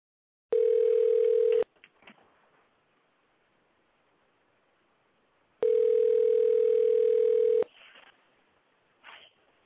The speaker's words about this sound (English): phone is ringing.